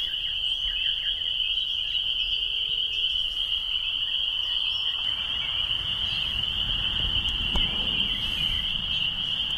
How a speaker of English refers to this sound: And here are the spring peepers I promised you.